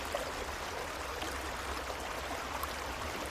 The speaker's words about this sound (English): Connected with the earth as you let yourself fall asleep by this quiet creek